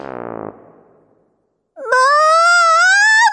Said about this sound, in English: Wailed …. …'s being mean to me!